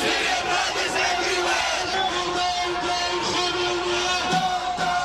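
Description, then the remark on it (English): A crowd of thousands of protesters in downtown London, gathered in solidarity with people trapped in Aleppo, chants and shouts together, a dense, loud wall of many voices that holds steady throughout without pause, with no single speaker standing out. “Thousands of protesters gathered in downtown London in solidarity with those trapped in Aleppo.”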